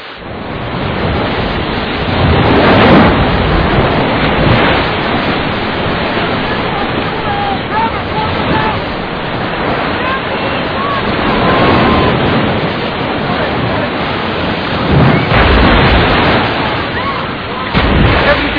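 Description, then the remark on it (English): Waves surge and crash onto an eroding beach in a steady, loud roar, swelling and receding in repeated surges as the tide rises suddenly and the water pushes in. “This can't be normal. The tide shifting so suddenly, rising in so short a time.”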